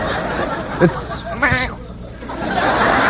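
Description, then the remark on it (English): A short, wavering goat bleat rises briefly out of a busy, noisy background, with a fainter cry just before it; the sound is moderately loud. “go cook up one of those goats first”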